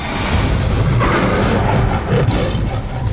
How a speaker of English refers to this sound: The jaguar roared and rushed forth.